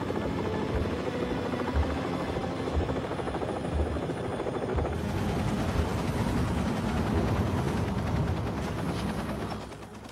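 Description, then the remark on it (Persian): A helicopter, call sign H3C King, touches down on a landing pad at a base after approaching from the west, its rotor beating in a loud, dense, steady roar that fills the whole clip before easing slightly at the very end. “فرود اومدیم.”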